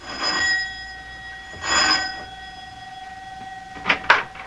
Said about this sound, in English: Both of them are worried now, as Mac presses the doorbell at his house in answer to the professor's elated phone call.